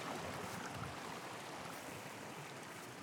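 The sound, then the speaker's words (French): Water flows steadily in a stream, a continuous even rush and babble that holds at the same level throughout, with no voices present. “D'ailleurs, il faut faire attention, hein, dans le ruisseau, ça glisse beaucoup là.”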